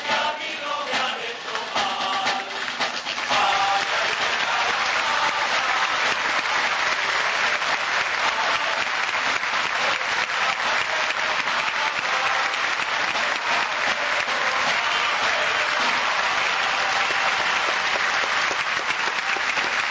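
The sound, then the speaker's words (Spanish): Sustained standing ovation lasting several minutes from a large theatre audience after a performance of El Alcalde de Zalamea, a dense, steady wash of clapping that holds at a loud, even level for the whole stretch with no voices breaking through. “Igual esto, te digo, fueron varios minutos de aplauso de pie.”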